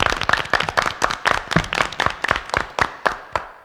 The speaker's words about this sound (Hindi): अच्छा हाँ तो मेहरबानो कदरदानो थूकदानो पायदानो बेईमानो एक बार खेल शुरू करने से पहला जोरदार ताली बजा दो।